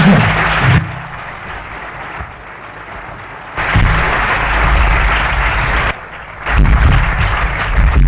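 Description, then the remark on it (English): An audience at a lecture series about politics applauds in dense, steady bursts of clapping that swell, ease off, then surge again twice over several seconds, with no talking, welcoming the series' inspirer as he comes to the lectern. “They're all high-powered speakers, so please give him a little clap for all his efforts.”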